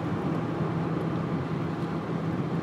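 Steady road noise from inside a small car, an Echo, being driven, a constant low rumble with a faint engine hum underneath, holding an even level throughout with no voices.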